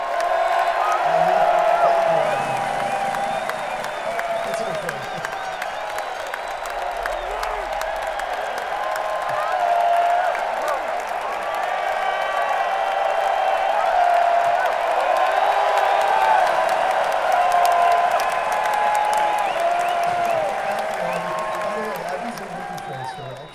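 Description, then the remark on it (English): A large crowd applauds and cheers loudly for over twenty seconds for the show's director and co-creative director, who designed the light show. Steady clapping runs under a dense swell of whoops and shouting voices that holds its level before easing slightly at the end. “Designing our light show and working on, she's been with us for a while, part of the film, so this is her chance to get her cheer.”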